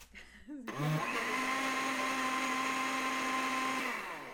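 In a kitchen in the morning, a blender whirs into a loud, steady motor whine after a brief low start, holding a constant pitch with a churning, grinding texture as it purées a green smoothie of apple chunks, lemon and spinach, then eases slightly at the end.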